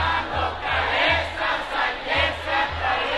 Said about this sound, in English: Cut to Los Angeles, where a young nightclub crowd is partying and singing along to the latest narco corrido.